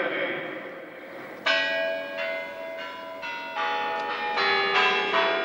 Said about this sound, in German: Wie in jedem Jahr läuten die Kremlglocken um Punkt 10 Uhr Ortszeit den Beginn der Siegesparade ein.